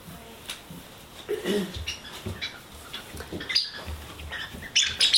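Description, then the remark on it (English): A Radha Krishna toy from Gujarat gives off short, high-pitched bird-like chirps and squeaks in scattered bursts, louder toward the end, over a low background of rustling and noise. “Why does Radha Krishna sound like a bird? That is the strangest toy.”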